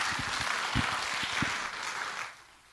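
An audience claps steadily, a dense wash of many hands with a few sharper individual claps standing out, then the applause fades away near the end. No one speaks over it.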